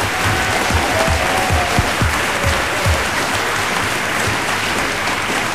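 audience applause

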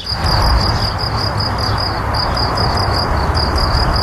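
crickets chirping

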